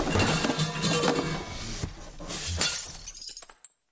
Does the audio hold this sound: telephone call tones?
no